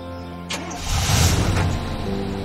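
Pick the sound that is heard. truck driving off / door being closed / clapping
truck driving off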